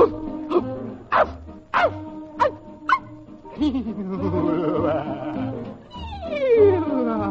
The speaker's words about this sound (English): Woof, woof.